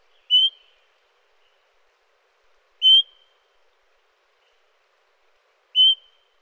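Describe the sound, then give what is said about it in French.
Three short, clear whistled calls of a Swainson's thrush in flight, evenly spaced about two and a half seconds apart against near silence, each a brief rising note. “Et on va écouter le troisième extrait, donc qui est le cri en vol, si on veut.”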